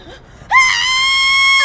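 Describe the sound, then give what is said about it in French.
A loud, sustained high-pitched scream bursts in after a brief quiet moment and holds steady for over a second, sounding like it comes from a played recording. “J'avais oublié que ça crie toujours à ce moment-là.”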